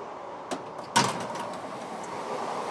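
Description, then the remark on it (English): A door between train carriages slides open on a moving train: a short knock, then a louder rattling whoosh that fades into the steady rumble of the carriage. No one speaks. “Door.”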